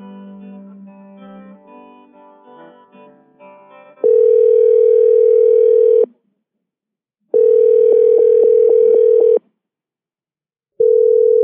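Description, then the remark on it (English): A steady, loud telephone dial tone sounds in long bursts of about two seconds, separated by silent gaps, after a few seconds of jumbled electronic beeps and tones, as a call drops because the cordless handset of a hotel phone died. No one speaks. “Sorry, you guys lost me there. The cordless handset on my hotel phone died, but I'm on the cell.”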